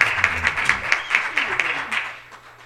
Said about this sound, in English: Praise the Lord. Let's give him another hand clap of praise.